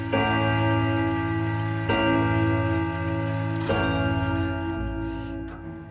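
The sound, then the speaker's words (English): An antique grandfather clock in a living room chimes six o'clock, its deep resonant strikes falling slowly and evenly, about four in all, each ringing tone sustaining into the next before fading at the end. “The grandfather clock strikes 6.”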